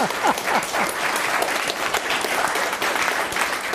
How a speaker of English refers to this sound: This is Paulette Brown. Let's give her a round of applause and welcome her.